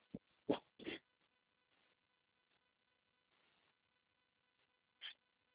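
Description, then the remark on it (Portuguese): A dog gives three quick yelps or barks in a row, then falls quiet before one last bark a few seconds later. Fairly loud, with no talking. “Cachorro.”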